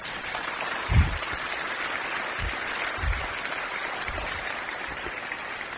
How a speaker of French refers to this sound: Et si vous êtes d'accord, nous pouvons applaudir ce Jésus-Christ.